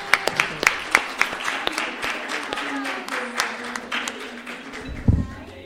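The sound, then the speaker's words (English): An audience claps in a steady round of applause for mothers at a gathering, sharp hand claps layered into a dense crackle lasting several seconds, with faint voices murmuring beneath and a louder thump near the end. “Okay, let's give her a round of applause for our mothers, okay?”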